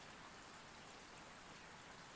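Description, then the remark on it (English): Steady rainfall patters down continuously, a dense, even hiss of drops hitting a surface with no pauses. The sound is soft and fairly quiet, with no voices present. “Floating down without a care in the world, just relaxing, letting your thoughts drift, listening to the sound of the rain.”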